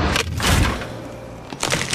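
The hard chocolate coating of a Magnum Praliné or Magnum Frambuesa ice cream tub cracks, with a few crisp, crunchy snaps in separate bursts and a faint low thud underneath; no one speaks.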